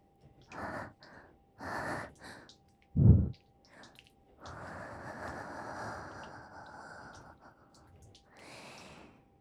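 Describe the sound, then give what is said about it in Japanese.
Hot, intimate breaths exhaled right into a listener's ear: a few short breathy puffs and a sharp snort-like burst, then a long, sustained warm exhale and one more soft breath, with no talking. “熱い吐息がお兄さんのお耳にかかってるの。”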